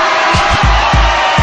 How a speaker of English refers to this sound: It's getting hot. Ladies be sweating. Let me hear the ladies scream.